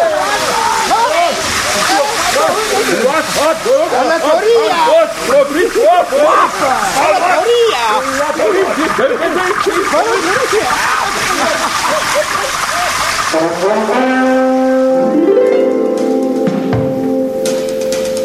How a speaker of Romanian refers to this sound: Puneți furtunul cu apă pe ei.